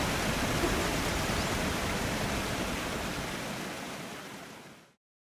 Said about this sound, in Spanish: Sí, se escucha. Lo escucho muy cerca. Escucha la vida. Allí, allí está la cascada. La encontramos, por fin. Allá, miren, miren al frente. Por fin te encontramos, Salto del Agua.